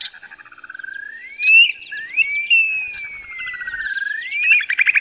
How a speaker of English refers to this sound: Upland sandpipers are another bird you can see at Military Ridge. Listen for their unusual wolf whistle call.